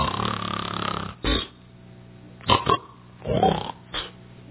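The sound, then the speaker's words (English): A man loudly imitates his father snoring with his voice, producing a long rumbling snort followed by several shorter, throaty bursts spaced irregularly. “I'd hear my dad snoring.”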